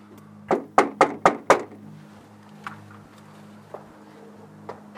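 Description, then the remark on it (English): Five firm knocks on a front door in quick, even succession, loud, followed by quiet with a few faint clicks over a low steady hum. “Right next to the door I was knocking on, there was another door.”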